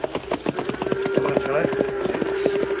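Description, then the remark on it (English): A horse's hooves clip-clop uphill at night in a quick, steady rhythm of hollow, woody knocks, with a sustained low tone running underneath throughout. “Come on, horse. Up that hill. Come on, boy. Steady now.”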